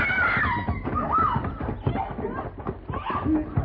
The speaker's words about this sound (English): What was that? Oh, sound like a lady scream, Mr. Paladin.